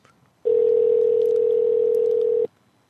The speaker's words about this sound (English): Go ahead and get him on the horn. It's ringing. Okay, great.